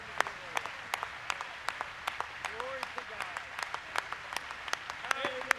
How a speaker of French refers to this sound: L'Église s'est levée pour applaudir.